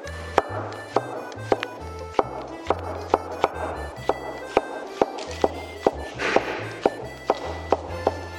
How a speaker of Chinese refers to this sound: 啊，要把它切丝。 对。